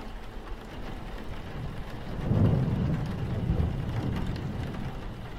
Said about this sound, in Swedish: Huset skakade av åskan.